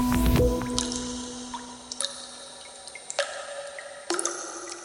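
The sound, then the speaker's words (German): Water drips one drop at a time in the Teufelshöhle, a dripstone show cave in Steinau an der Straße, each plop ringing out with a bright echo, spaced irregularly over quiet, hollow ambience. “Es ist eine ruhige, aber bemerkenswerte Welt in der Teufelshöhle in Steinau an der Straße. Die Schau- und Tropfsteinhöhle ist jetzt wieder offen für Besucherinnen und Besucher.”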